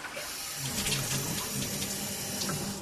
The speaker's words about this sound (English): It's about 2.2. Okay, so sink and shower is very efficient, running under 2 gallons per minute.